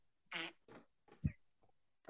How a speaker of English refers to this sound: What song is that? Farts. Fart sound. Farts are always funny.